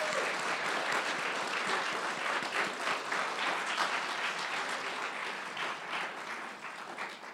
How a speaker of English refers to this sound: That was tremendous. Let's go ahead. We'll give them another big round of applause.